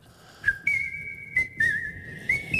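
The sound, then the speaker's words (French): A person whistles a short melody from a 1937 film, the clear, sustained notes sliding and holding with a few brief breaths and clicks between phrases, with no talking. “Il adore s'entendre siffler.”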